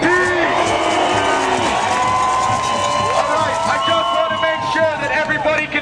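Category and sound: crowd, large rally crowd cheering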